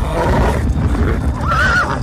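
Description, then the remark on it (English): A horse breathes heavily, deep rumbling breaths filling the moment, with a short whinnying cry rising near the end. No one speaks. “You see soldiers moving in, and you hear the breathing of the horse.”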